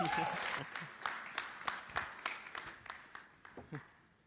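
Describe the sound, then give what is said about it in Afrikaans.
An audience breaks into applause, the claps sharp and fairly even in rhythm, sounding fairly quiet overall and thinning out toward the end, with a brief voice murmur at the start. “Kom ons geef hom weer 'n hande klap.”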